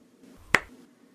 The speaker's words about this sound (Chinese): 好了，用右手狠狠地给我拍下去啊。